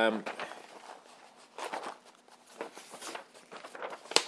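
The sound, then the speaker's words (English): A sheet of A4 paper being pulled out to measure a box against, with several quick papery rustles and crinkles in uneven bursts, ending in a sharp crisp snap. “If I could pull a piece of A4 paper out, there we go.”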